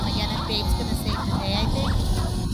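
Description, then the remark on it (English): Several wolves yip and whimper in a chorus of short, rising, whiny cries over a steady noisy background, with faint murmuring voices mixed in. “Is this a wolf?”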